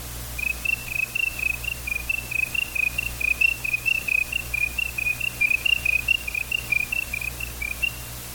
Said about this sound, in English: You could hear the crickets, really, they'd become deafening.